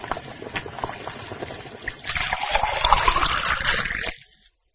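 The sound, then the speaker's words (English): Boiling water is poured steadily into a container of instant noodles, the splashing pour growing louder and rising in pitch as it fills, then stopping abruptly. “When the water is boiling, add the water to the noodles.”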